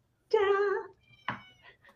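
A cat gives a single drawn-out, clear meow, followed by a short rustling thump and a couple of faint, brief noises.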